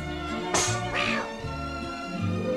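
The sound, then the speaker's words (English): A cat meows twice in quick succession, a sharp rising cry followed by a longer, drawn-out wail, set against a steady droning hum in the background. “Now we put the cat into the pot.”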